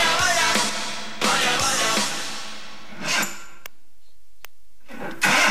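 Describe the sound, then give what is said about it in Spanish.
The mayor's broken-down car engine cranks and sputters in several rough, grinding bursts, each dying away into a brief pause without the engine catching. Fairly loud, with no talking. “El coche del alcalde tiene una avería.”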